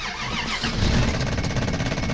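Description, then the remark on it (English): An old truck engine cranks over and over in a steady, rhythmic chug, loud, without catching or starting, because of a faulty solenoid. “Damn it, it's the solenoid again. Eric was right, I should have junked this thing.”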